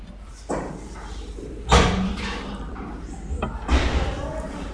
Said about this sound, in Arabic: لو سمحت افتح الباب، كل واحدة تدخل تطلع تسوي لنا صوت ما نقدر نركز، خلوا الباب مفتوح، اللي تطلع تطلع